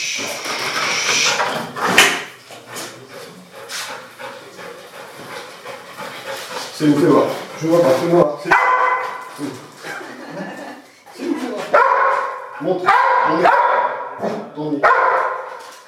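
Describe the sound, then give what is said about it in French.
A police detection dog of the Allier departmental police dog unit in France barks in sharp clusters, mixed with panting and shuffling, while people talk, during a demonstration in the basement of the prefecture as it starts locating a hidden substance. “nous allons rencontrer la brigade cynophile de la police départementale de l'Allier avec deux chiens qui vont nous faire une démonstration dans les sous-sols de la préfecture.”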